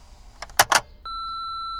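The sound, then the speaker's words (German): A few short clicks and rattles, then a steady high-pitched electronic beep tone that holds unbroken for nearly a second: an answering machine's beep after its greeting, signaling callers to speak after the tone. “Wenn Sie was zu sagen haben, dann schweigen Sie oder sagen Sie es, wenn es sein muss, nach dem Pfeifton.”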